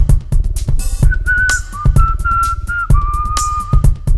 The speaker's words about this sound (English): Whistling my troubles away.